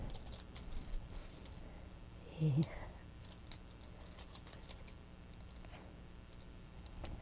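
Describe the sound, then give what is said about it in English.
Metal keys are shaken by a baby, jangling and rattling in quick, irregular bursts, with a brief louder thump partway through and a soft murmur in the background. “You found keys?”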